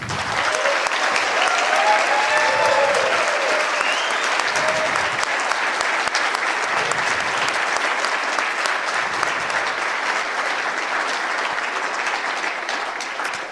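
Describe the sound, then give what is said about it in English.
An audience claps steadily for about thirteen seconds, a round of applause for the speakers, a dense, sustained wash that stays fairly loud throughout with no voices standing out, tapering only slightly at the very end. “So I think that's a big aspect to give a big round of applause to the speakers.”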